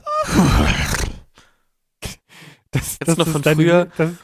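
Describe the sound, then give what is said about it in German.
A person vocally imitates a horse: a long breathy groan, two sharp claps on the chest, then a wavering, whinny-like voiced call, fairly loud. “Ja, kennst du noch von früher, wenn die Leute immer dieses Pferd nachgemacht haben mit dem zweimal Klatschen auf der Brust oder so?”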